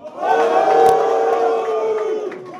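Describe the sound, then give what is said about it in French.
A show audience whistles and jeers together at a returning guest in a sustained, loud burst lasting a couple of seconds, with steady overlapping tones and no talking. “Pourquoi il est sifflé,”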